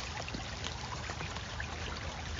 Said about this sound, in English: And you can just listen to the creek all day. I like it a lot.